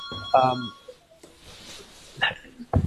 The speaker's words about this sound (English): I have a phone ringing in the background, but please carry on. Okay, no, we'll ignore it.